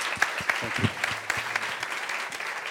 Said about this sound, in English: Our guests tonight are Mark Canlis, who is the owner of Canlis Restaurant. And let's have a big round of applause for Mark tonight.